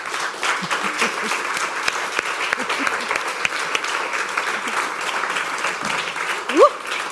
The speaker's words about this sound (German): Und ich würde sagen, jetzt holen wir sie auf die Bühne. Mit einem warmen Applaus, bitteschön.